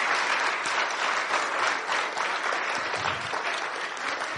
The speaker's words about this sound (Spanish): Aquí reconocemos que los aplausos y las alabanzas y la adoración es para Dios, no para el hombre.